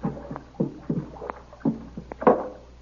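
A small canoe, its paddling stopped, glides up alongside on arrival at a dock, with a series of soft, irregular water splashes and sloshes, rising briefly louder toward the end. No one speaks.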